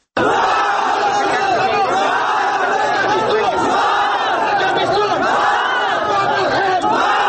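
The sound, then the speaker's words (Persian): A large crowd of protesters in Herat, Afghanistan, chants slogans against the election commissions in front of the Herat province building, protesting election fraud; many voices shout together in a loud, continuous roar with rising and falling rhythmic phrases throughout. “اعتراض کنندگان علیه کمیسیون‌های انتخاباتی شعار داده و کارت‌های رای‌دهی‌شان را در مقابل ساختمان ولایت هرات به آتش زدند.”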